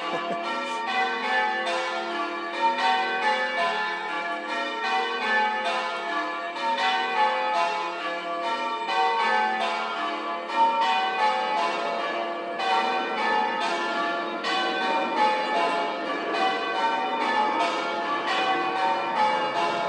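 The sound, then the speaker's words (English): The bells of St Mary's Church in Richmond ring out in a continuous, overlapping peal, with strikes tumbling over one another at a steady pace, fairly loud and resonant, and no voices. “So the sum total of Richmond bell ringing appears to be St Mary's Church in the middle here and somebody rattling a tambourine in the churchyard.”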